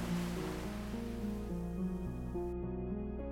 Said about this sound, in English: Before you, the ocean stretches wide and calm. The waves roll in slowly, one after another, in a gentle and steady rhythm. The shoreline curves softly in the distance.